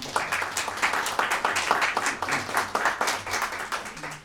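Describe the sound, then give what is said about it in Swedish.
An audience applauds to thank a presenter, a dense wash of many hands clapping at a fairly even level for a few seconds, with no talking over it. “Tackar vi Bernt så mycket för det här. Med en applåd tycker jag.”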